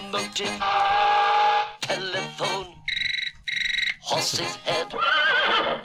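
A horse neighs loudly in several bursts: shrill, wavering whinnies with brief pauses between them, sounding clear with no one talking over them.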